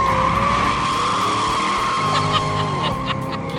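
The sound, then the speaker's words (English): A 1967 Chevrolet Stingray's tires squeal in a sustained, loud burnout, a steady high screech riding over a deep, rumbling engine roar for the whole few seconds, with no talking. “there's a video of him doing burnouts with Jay Leno in his 1967 Chevrolet Stingray”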